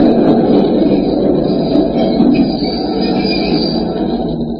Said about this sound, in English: The last train was just pulling in.